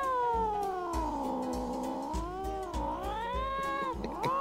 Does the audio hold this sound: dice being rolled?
no